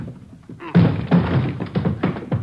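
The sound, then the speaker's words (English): A door being struck hard, with five or so heavy, booming thuds landing in an uneven rhythm over a couple of seconds, loud. “Hit the door.”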